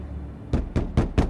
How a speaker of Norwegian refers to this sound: Den 11. juni banker det på døra hjemme hos paret.